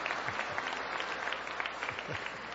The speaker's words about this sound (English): Look, they're applauding. Yeah.